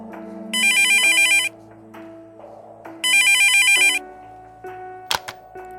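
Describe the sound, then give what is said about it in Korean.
A phone ringtone rings twice in loud, bright electronic bursts, each about a second long, over a soft sustained musical background with a sharp chime near the end. “하지만 일, 감정, 모든 걸 깨끗하게 정리하자고 마음먹은 그때 전화 한 통을 받았다.”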